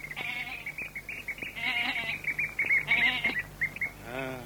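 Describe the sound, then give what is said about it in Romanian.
A goat bleats several times in wavering, quavering cries, the last one loud, while birds chirp steadily in the background. No one speaks. The goat is being led on ropes in the morning. “Vine unul cu o capră de funii.”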